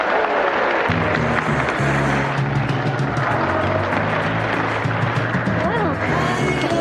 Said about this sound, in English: That's what they're cheering for.